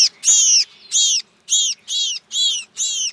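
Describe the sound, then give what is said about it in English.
A sharp-shinned hawk, a 12-inch woodland hawk, gives a series of about six loud, harsh, high-pitched calls in a steady, evenly spaced rhythm, with no other sounds around them. “The cause of their distress could be a 12-inch woodland hawk, the sharp-shinned hawk, which preys chiefly on small birds.”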